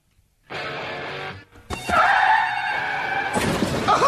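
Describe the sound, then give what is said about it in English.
A car crash sound effect for the "Car Wreck of the Day" segment on ESPN 975 radio: a sudden burst of noise, a brief pause, then a loud, sustained crunch of smashing and shattering with a harsh, high squealing tone running through it. “Let's get to the car wreck of the day.”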